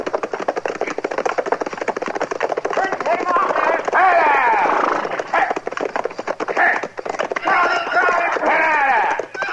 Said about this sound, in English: That's a runaway horse, Chester.